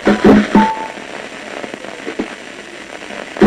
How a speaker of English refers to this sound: in fact the sound you're hearing, the sound of individual neurons inside the monkey's brain chattering away as it's about to make a decision. And this, coming up, is the sound of it actually deciding, right there. Each time you hear that stuttering,